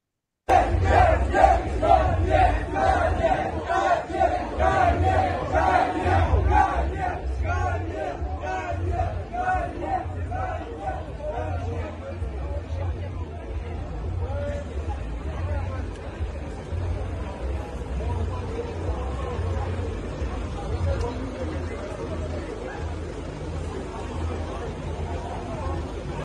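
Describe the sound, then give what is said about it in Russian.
A large crowd of people gathered outside the Four Seasons hotel to greet an arrival chants in unison, a loud rhythmic roar of many voices repeating a short phrase, strongest in the first few seconds and then holding steady with a low rumble underneath. “Вот, Four Seasons, там толпа огромная людей, которые встречают.”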